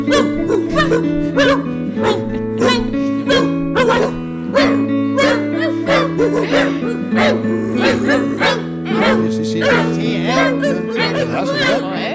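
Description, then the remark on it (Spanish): Dogs howl and yip along to strummed guitar chords playing the Ode to Joy from Beethoven's Ninth Symphony, their wavering cries rising over a steady, rhythmic accompaniment that plays continuously and fairly loud throughout. “Sí, pero con la guitarra y con mis perros cantando.”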